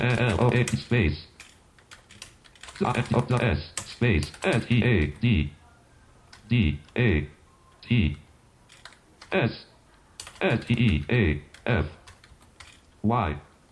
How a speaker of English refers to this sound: So I'm going to start typing download Windows Steady State.